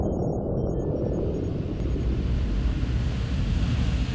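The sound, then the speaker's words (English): A steady, loud rush of ocean surf washing onto the shore, a dense roaring hiss that swells slightly without pause and carries a faint windy edge. No voices are heard. “The ocean sighed as it rushed forward and receded in a rhythm, even more ancient than what was unfolding on its lavender sand shores.”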